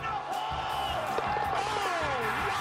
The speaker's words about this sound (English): listen to the crowd. They're going to go nuts when he hits this thing. Lambert with a setup kick for Riebold! This is it!